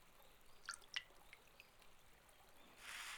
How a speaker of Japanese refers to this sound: そうしたら聖水を垂らして、少しずつ泡立てていきます。